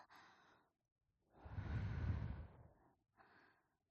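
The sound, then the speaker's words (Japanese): Soft breaths blown out at the listener in three puffs, a role-play succubus's sweet breath attack: a short airy one, a longer fuller exhale in the middle, then a brief final puff, breathy and gentle with no words. “甘い吐息攻撃。”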